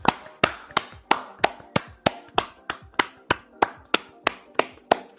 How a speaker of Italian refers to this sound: Beh dai, glielo vogliamo fare un applauso al pubblico? Certo. E facciamolo.